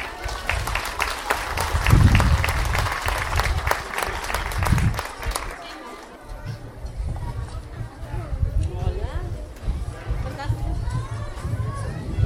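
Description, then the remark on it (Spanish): An audience breaks into loud, dense applause for several seconds at the first-anniversary event of the community radio station Radio Tlanisco Manantial de Libertad, 96.2 FM, then the clapping fades into a low murmur of crowd chatter and voices. “Un fuerte aplauso.”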